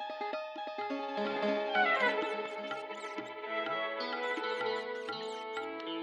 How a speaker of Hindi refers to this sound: घर में एक चूहा है, चिल्लाते हुए चीकू कुर्सी पर उछला।